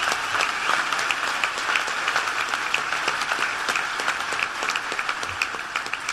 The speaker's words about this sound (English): So please give Dick Durbin a big round of applause.